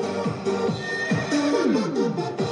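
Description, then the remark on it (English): Repeated horse whinnies with shaky, descending pitch sweep over a steady electronic techno music bed, several neighs in quick succession, loud, no talking, as local hotel staff in the city of Kangbashi, China, do a choreographed morning dance. “The city of Kangbashi, where on most mornings you can watch staff members of the local hotel do a choreographed dance to techno music sprinkled with horse calls.”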